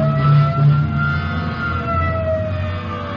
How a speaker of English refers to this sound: Okay, hit the siren. Let's move.